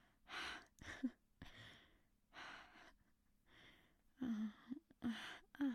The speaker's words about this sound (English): Oh, I know, I'm still panting.